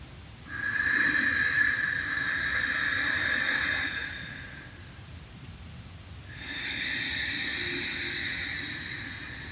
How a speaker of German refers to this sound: Ihr hört ja das Geräusch, also wenn man Ujjayi atmet, ich mache euch das mal kurz vor, aus dem Stegreif.